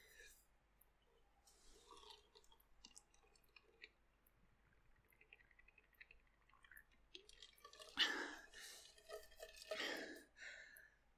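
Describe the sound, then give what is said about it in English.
Someone drinking water: quiet wet sips and small swallowing clicks, then two louder gulping, breathy bursts toward the end. No speech. “All right, I have finished taking a drink.”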